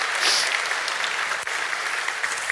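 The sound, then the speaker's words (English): Steady, dense applause from a church audience during a morning service for children who recited scriptures and sang, a continuous crackle of many hands clapping at an even loudness for the whole stretch, with no voices standing out. “Let's give them another round of applause there.”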